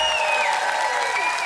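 Steady, dense applause from a large concert crowd at a concert broadcast on BBC Radio 2, loud and continuous throughout, with a few whistles ringing above the clapping.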